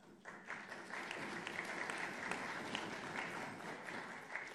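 Council members applauding together at a council meeting after a new SP committee member is appointed, a steady dense patter of many hands clapping at once, sustained throughout with no voices rising above it.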